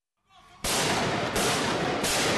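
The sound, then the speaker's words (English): Gunfire during the shooting rampage by masked gunmen at the offices of the magazine Charlie Hebdo in Paris, recorded on a journalist's cell phone at 11:30 a.m. Paris time: three loud, sharp cracks about two-thirds of a second apart, each one blasting into a harsh, distorted roar that never fades between shots. “A journalist's cell phone captured the sound of the killing rampage this morning at 11:30 a.m. Paris time.”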